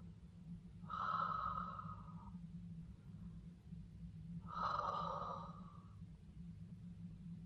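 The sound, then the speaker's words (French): Two slow, drawn-out breaths from a sleeping man, each lasting over a second with a raspy edge, spaced a few seconds apart over a steady low hum. “Le dormeur n'a pas fait un mouvement, elle entend encore sa respiration.”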